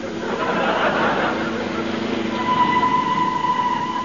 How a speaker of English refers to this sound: The gates are closed and the train is coming.